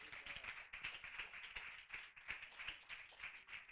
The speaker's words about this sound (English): So let's just give her a round of applause, amen.